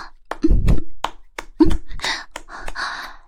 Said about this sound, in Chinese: 听到开门声了吗？你爸他回来的好快呀。